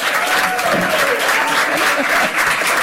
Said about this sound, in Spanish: Bueno, creo que hay que felicitar al jurado y a los jurados porque es el año que más aplausos ha habido en la sala.